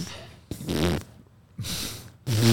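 Three loud, buzzy fart noises in a row from a hardware fart device, each a short raspy burst separated by brief pauses, with the last one the deepest and most sputtering.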